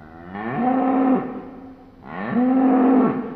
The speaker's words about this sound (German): Und so tönt das Rindvieh, wenn es brünstig ist.